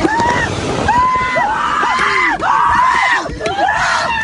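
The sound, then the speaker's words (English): Several kids scream in pain at once after a fireball sets a car on fire, recorded by a dash cam; their overlapping, rising and falling wails are loud and sustained for the whole stretch over a rough background noise. “These people are obviously in pain, but listen to the scream.”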